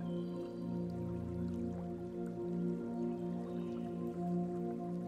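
trickling stream water

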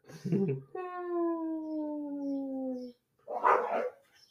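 dog howling

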